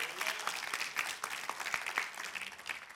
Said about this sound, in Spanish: Si le vas a dar un aplauso, dáselo fuerte porque es para Él.